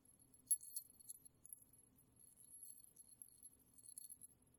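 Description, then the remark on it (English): Keys jangle softly and intermittently, with light metallic clinks and rattles coming in small bursts throughout, quiet, with no talking. “Say goodnight to your keys, all the way across the continent.”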